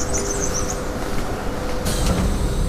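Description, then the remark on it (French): A bus engine rumbles steadily, with a deep, continuous drone and faint high-pitched whines and rattles over it, at the bus station at the top of the town next to the citadel on Belle-Île. No one speaks. “alors que nous nous dirigeons vers la gare routière en haut de la ville, à côté de la citadelle, pour prendre notre bus.”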